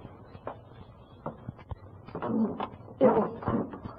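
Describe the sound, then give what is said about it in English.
A few soft, scattered taps like footsteps on wood as a man with his shoes off sneaks up the stairs to bed, then a louder drawn-out creak with a squeaky, rising edge as a stair step gives under weight. “Oh, it's that creaky step.”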